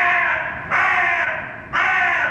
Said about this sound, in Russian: Ворона.